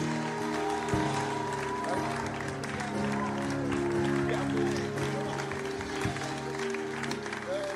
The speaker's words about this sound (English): Are you clapping for him? Hallelujah. Oh, if that was for me, then let's give a better one to Jesus.